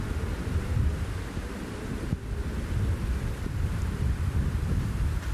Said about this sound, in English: Glorious, glorious cooling rain. Oh, refreshing and replenishing after a day like we've had today. Oh. Glorious summer thunderstorms.